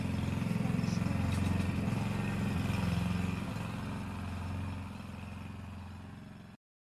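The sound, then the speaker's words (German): Neighbours' power drill used while renovating their house: a continuous, steady motorized whine with a low droning hum, running nonstop for several seconds, fairly loud, cutting off abruptly at the end. “Das waren meine Nachbarn mit einer Bohrmaschine.”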